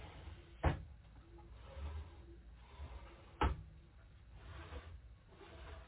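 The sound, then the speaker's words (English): Two sharp wooden clunks a few seconds apart, like drawers of a kitchen unit with three drawers being pushed shut or pulled open, with a quiet murmur and faint shuffling between them. “And we have three drawers.”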